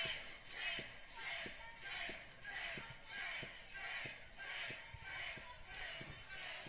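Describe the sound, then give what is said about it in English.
A large protest crowd chants "shame" in a steady, repeating rhythm, many voices shouting together in unison with regular beats, loud, as the mayor of Minneapolis walks through the crowd and the chant keeps going. “He just gotta walk through this crowd, sea of people.”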